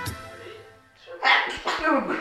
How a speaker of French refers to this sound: À vos souhaits.